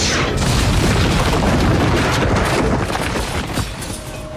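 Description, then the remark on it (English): A heavy cannonball blast smashes through the stone wall of a jail cell, a deep booming roar with crumbling, rumbling debris that stays loud across several seconds before slowly tapering off. “In the jail, Jack Sparrow dives for cover as a cannonball breaches the cell next door.”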